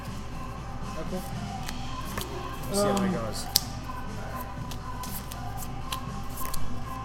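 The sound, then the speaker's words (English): A deck of playing cards being shuffled, with crisp papery flicks and a short riffling burst midway, heard under quiet conversation. “I'm just going to do a shuffle like this.”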